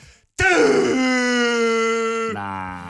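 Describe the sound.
A voice imitates a ship's horn with one loud, long, steady droning tone that holds for about two seconds, then drops to a lower, buzzier pitch as it trails off.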